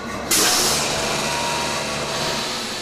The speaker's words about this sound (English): The toilets work by pumping air out of waste tanks in the rear of the plane, causing a partial vacuum. When a toilet is flushed, air is sucked in to fill the vacuum, and the waste is drawn down the pipes into the tanks.